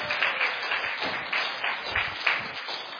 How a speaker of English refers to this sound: Okay, this bear loves the applause. Would you give him a round of applause, please? I think sometimes that's why he comes.